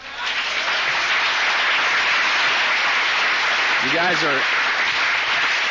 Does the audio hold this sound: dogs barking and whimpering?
no